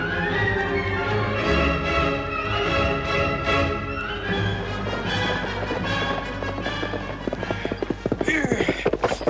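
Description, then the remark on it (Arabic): Galloping horse hooves of a pursuing horseman clatter in a rapid, uneven rhythm, growing steadily louder toward the end, after a stretch of sustained dramatic music that carries through the opening. “فارس لحق بنا يا بطرس.”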